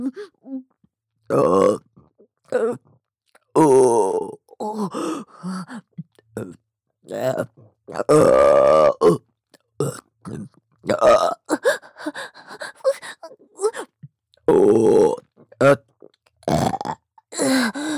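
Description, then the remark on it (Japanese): A long series of loud, close-up burps, some drawn out and croaky, others short, coming one after another in an irregular rhythm with brief pauses between them. “ゲップもご主人様好きですし、私もゲップするたびに喉が刺激されて、いっぱい感じちゃう。”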